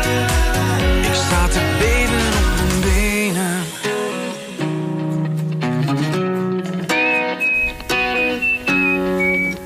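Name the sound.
whistling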